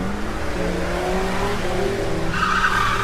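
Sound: car lurching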